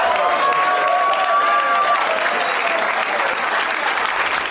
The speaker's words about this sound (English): Oh, now you're clapping, assholes?